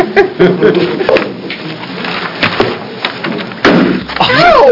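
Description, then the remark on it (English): A gavel comes down hard on its block to open a Senate public hearing on bills, giving several sharp, loud wooden knocks at uneven intervals over a low murmur of voices, with a person starting to speak at the end. “Can I hit the gavel? Yeah, you're opening the public hearing. Hit it really hard.”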